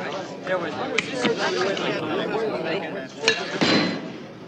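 A heavy butcher's knife thumps down a few times, sharp, broad knocks cutting through steady overlapping chatter, with the loudest hits coming close together near the end.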